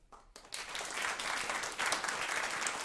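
A live audience of New Yorkers from many immigrant communities, joined by three guests on stage, breaks into sustained applause, many hands clapping in a dense, steady wash that swells quickly after a brief quiet start and holds at a loud, even level.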